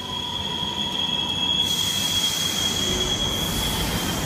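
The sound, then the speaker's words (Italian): A metro train arrives with a sustained, high-pitched squeal of wheels on the rails, a steady loud roar that brightens partway through, with no voices. “Invece la metro ci lascia proprio lì.”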